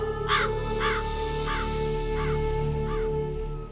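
A crow caws five times in a steady, evenly spaced series, each call harsh and clear, carried over a constant low hum in the background.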